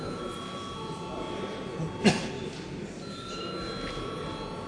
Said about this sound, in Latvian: Tātad vispirms balsojam par steidzamību. Lūdzu zvanu.